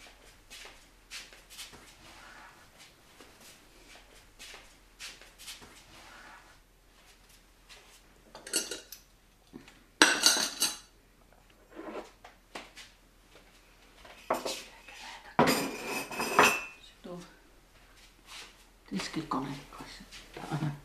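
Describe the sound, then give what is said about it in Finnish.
Dishes and cutlery clatter as they are gathered up in several uneven bursts, louder toward the end, with quiet voices talking in the background. “Kerätään näitä astioita”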